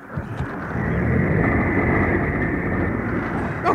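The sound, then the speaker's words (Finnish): A motorboat engine drones steadily and loudly throughout, a dense low rumble with a rough churning texture, unbroken, with no voices. “Menetimme monta kallista minuuttia, mutta meillä on nopeampi vene.”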